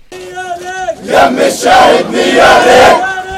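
A crowd of young men chants loudly in rhythmic bursts for grieving mothers in the occupied West Bank, their shouted voices swelling together, with a sustained single voice calling out at the start before the group joins in.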